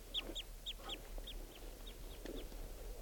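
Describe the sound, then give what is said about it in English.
A wild bird's flight song and calls as it approaches a net area: a quick series of short, high, downward-curving chirps, about three per second, growing fainter toward the end over a low steady hum, with no talking. “Flight song and flight calls, and he's approaching the net area.”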